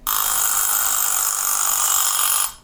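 A kitchen egg timer with dot markings rings loudly and continuously for about two and a half seconds, a bright metallic ringing with no talking, then it cuts off abruptly.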